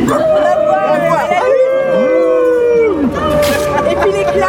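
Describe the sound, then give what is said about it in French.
Several people howl together in imitation of wolves or dogs, long overlapping wavering cries rising and falling continuously, loud, with a murmur of other voices underneath. “Fait les loups ou les chiens.”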